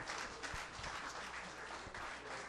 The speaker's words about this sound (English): All right, a little round of applause for our...